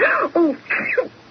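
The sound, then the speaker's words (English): A loud sneeze, drawn out in a few voiced, throaty bursts before the final blast, heard on its own with no talking. “Bless you, my dear.”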